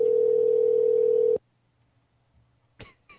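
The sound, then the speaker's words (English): A loud, steady telephone dial tone hums for just over a second while calling a cell phone, then cuts off abruptly into near silence, followed by a couple of brief, rough noise bursts at the end. “He actually, we're calling his cell phone here.”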